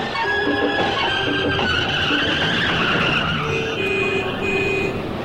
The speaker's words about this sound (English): Boy, what is it with all this traffic?